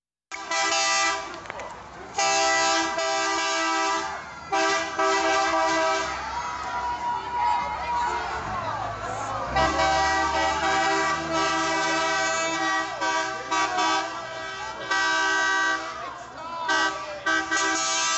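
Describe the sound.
On the last day of school at Canyon Creek Elementary School in Bothell, school buses fully loaded with kids roll around the drive as teachers blow bubbles, hold flags and wave. The horns toot in long, repeated blasts over a steady engine rumble, with excited chatter of voices mixed in throughout.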